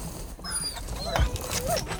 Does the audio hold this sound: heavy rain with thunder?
no